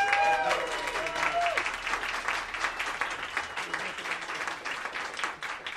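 An audience applauds steadily for several seconds, a dense wash of many hands clapping, with brief voices and a whoop rising over it at the start.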